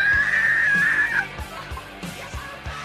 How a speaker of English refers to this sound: Screams of anguish echo down the hallway from the same women that just sighed at Marty's name.